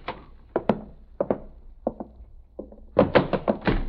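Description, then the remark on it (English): A door being opened to go in to see the doctor, heard as a series of dull wooden thunks and knocks, mostly in pairs with short pauses, ending in a quicker, louder cluster of clatters. No one speaks. “Okay, I'll open the door.”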